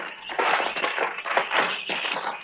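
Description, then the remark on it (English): A rusted-through door lock on a windowless building is forced open with a steady, gritty grinding and scraping, broken by rough creaking surges and crunching bursts, fairly loud and with no voices. “The lock's all rusted through. There. Yeah, that does it.”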